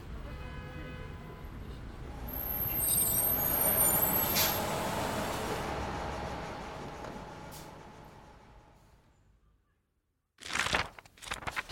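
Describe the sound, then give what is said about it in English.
A school bus rumbles, its engine swelling then fading to near silence, punctuated by sharp bursts of air brake hiss, one midway and a louder cluster at the end, during the ride to school. “so I have to take the bus.”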